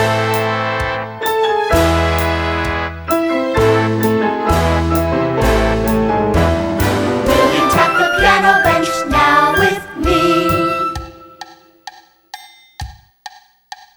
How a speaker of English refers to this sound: Will you play some white keys loudly, please?